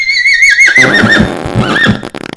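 A single loud horse whinny, starting high and quavering as it slides downward, then breaking into a rough, fluttering snort at the end. No voices accompany it.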